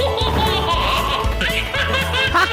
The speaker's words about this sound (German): Ich freue mich immer wie dieses Baby, was da jetzt lacht.